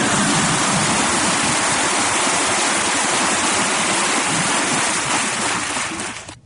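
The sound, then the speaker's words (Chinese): A crowd claps steadily for several seconds, the dense rattle of many hands forming a loud, even wash of noise that fades out abruptly at the end. No one speaks. “你的鼓掌声音都不够响啊。”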